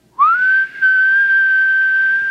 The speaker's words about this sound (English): It's one of those key rings that beeps when you whistle for it.